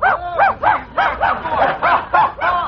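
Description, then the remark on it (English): A dog barks in a rapid, steady string of high yapping barks, about ten in quick succession, loud with no talking. “Why don't you go and play with the dog?”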